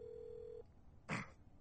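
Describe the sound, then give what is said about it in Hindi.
A steady telephone tone hums for about half a second, then after a brief pause a single short keypad beep sounds as Dhoni takes out his phone and dials a number; no voices. “धोनी ने फोन निकालकर नंबर मिलाया.”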